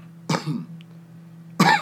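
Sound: coughing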